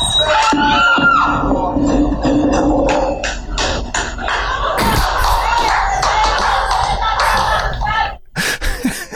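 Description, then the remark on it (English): A large street crowd in Medellín, in a viral video, bursts into loud laughter and applause after a motorcyclist rode into an open manhole, a dense roar of voices and clapping that holds steady for several seconds before dropping off into a few scattered bursts. “And then the crowd erupts in laughter and applause.”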